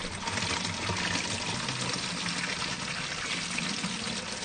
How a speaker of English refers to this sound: if you'd like to fill the bottle up with water